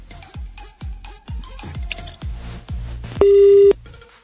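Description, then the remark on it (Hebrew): A telephone busy signal after a guest's phone line dropped during a radio interview: a loud, steady electronic tone lasting about half a second, sounding after a run of rhythmic, evenly spaced thumping beats. “נפלה לי מהקו הרבנית. ננסה לחדש את הקשר.”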